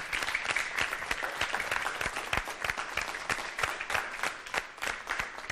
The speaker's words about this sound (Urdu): کیا بات ہے, ان کی بھی زوردار تالیوں کے ذریعے حوصلہ افزائی ہو جائے ایک بار.